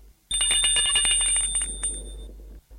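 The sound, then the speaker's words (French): A doorbell rings at the door of an apartment in one continuous burst of about two seconds, a rapid, high, metallic rattling ring that stops abruptly. No one speaks. “Un soir, que Marie est dans sa chambre à corriger les devoirs et qu'André est assis dans le living à lire, le living est presque vide, comme tout l'appartement, l'on sonne à la porte.”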